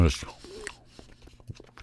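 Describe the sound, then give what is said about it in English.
Soft, moist chewing of small triangular pectin-based Delta 9 THC gummy edibles, a few quiet squishy bites and mouth noises in an irregular rhythm, with a brief breathy sound at the start. “So I'm going to give these a chew.”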